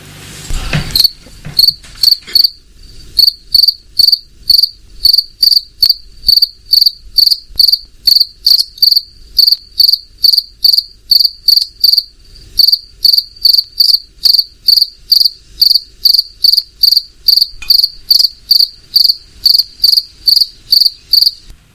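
A cricket chirps steadily in hot weather, sharp high-pitched pulses repeating in a fast, even rhythm for the whole stretch, with no voices.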